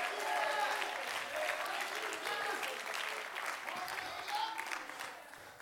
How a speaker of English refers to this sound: If that's ever happened to you, would you clap your hands or lift your arm or shout with your voice?